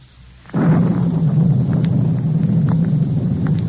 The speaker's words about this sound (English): As I came closer, collar turned up against the storm.